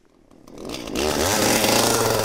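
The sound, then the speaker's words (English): A chainsaw engine revs up from a low idle into a loud, steady roar as it cuts down a Fraser fir on a Christmas tree farm outside Boone, North Carolina, with no voices. “four workers, chainsaws in hands, pick their way through neat rows of Fraser firs. Takes just a few seconds to saw down a tree.”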